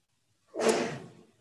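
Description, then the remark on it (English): A single sneeze bursts out abruptly after a moment of silence, a loud breathy explosion that trails off over less than a second. No one speaks. “Bless you.”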